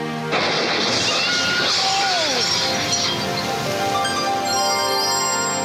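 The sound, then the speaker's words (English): Glass shatters with a sudden loud crash, followed by seconds of tinkling, scattering shards and debris settling. “Oh, I got a little bit of glass in my leg.”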